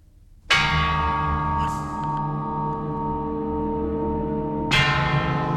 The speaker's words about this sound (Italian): E a sorpresa, quando se non se l'aspettava, questi grandi suoni di lastre come delle campane. Anche questo potrebbe essere quasi un omaggio a Messiaen, che usava spessissimo questi strumenti.